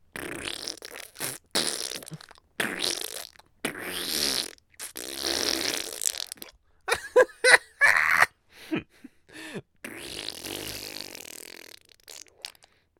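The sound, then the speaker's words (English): A voice makes a series of wet, sputtering mouth-fart noises in irregular bursts, fairly loud, imitating flatulence with brief pauses between them. “You think I'm farting? No, that's my mouth.”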